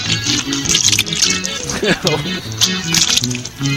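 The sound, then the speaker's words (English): Liquid vomit splashing onto a camera lens as a woman bends over the camera, wet, sloppy splashing and squelching in repeated bursts, with voices and gagging-like vocal sounds mixed throughout. “This is where one of the girls is taking one of her fingers, and she's bent over the camera, so all of the vomit splashes onto the lens.”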